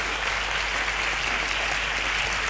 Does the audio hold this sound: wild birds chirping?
no